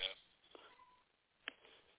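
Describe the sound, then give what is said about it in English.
A cat named Ringo meows faintly a couple of times, short calls spaced about a second apart against a quiet, muffled background. “I hear a cat meowing.”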